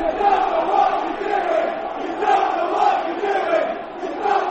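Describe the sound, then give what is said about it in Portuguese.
A stadium crowd of Chelsea football fans chants "You don't know what you are doing" at manager Maurizio Sarri, a dense roar of many voices rising and falling in a steady rhythmic cadence, loud and sustained throughout with no single voice standing out. “Era o grito dos adeptos do Chelsea.”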